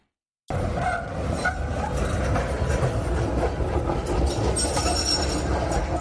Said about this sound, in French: Là, nous dans la ville Melbourne, côté que nous pourrions utiliser le système de transportation publique, ça, qui est le tramway. Tramway sont petits trains qui font, eh bien, route locale.